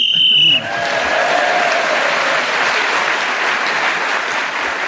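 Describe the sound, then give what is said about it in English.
A single short, shrill whistle blast sounds to end a round of a game show, then cuts off as steady applause from an audience swells and carries on to the end. “Right, so Tony Hawks brought their show to a close and got a point for speaking as a whistle went.”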